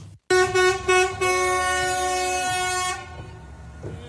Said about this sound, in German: Und dann auch noch der Captain David Alaba als hupender Busfahrer.